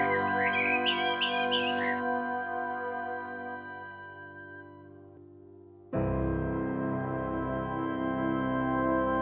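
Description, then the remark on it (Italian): A short burst of bright bird chirps and tweets for about two seconds as a pigeon flies away, over sustained music, which then fades briefly before swelling back up loudly. “Mi disse il piccione, mentre già stava volando via.”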